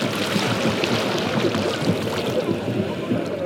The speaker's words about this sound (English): He passes around a tray of karanji, a coconut dessert shaped like the half moon, as the waves crash on the shore.